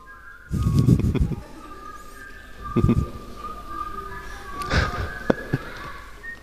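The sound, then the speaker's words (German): Someone whistles the Jeopardy waiting music, a steady melody of held, mid-high notes that step up and down, with a few dull thumps and crowd rustle underneath. “Da gibt es doch diese Jeopardy-Wartemusik. Wer will die pfeifen?”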